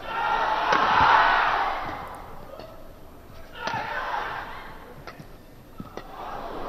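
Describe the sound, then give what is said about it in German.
The crowd at the 2012 Olympic badminton final, with Lin Dan playing, cheers in two loud swells that rise and fade, while sharp, percussive racket smacks and thuds punctuate the roar and the quieter stretch between. “Jubel trifft auf konzentrierte Stille. Das ist das Olympiafinale im Badminton.”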